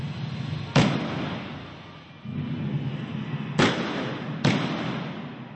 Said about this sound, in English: And no, that wasn't from the archives. On Thursday morning, once again, shots and explosions could be heard in the streets around the radio.